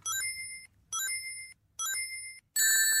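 Bright, high electronic chimes from the Sonic video game's ring pickup sound, as Sonic collects a large number of rings: three evenly spaced bursts, then a louder, denser flurry of overlapping chimes at the end, with no talking.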